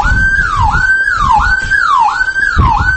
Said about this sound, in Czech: Ovako već drugi dan sviraju alarmi na brojnim objektima u gradu u nedostatku struje.